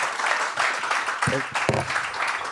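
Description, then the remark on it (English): Steady audience applause at a live show as a performer leaves the stage, a dense crackle of many hands clapping at an even level throughout, with a couple of brief voices calling out above it partway through. “A round of applause.”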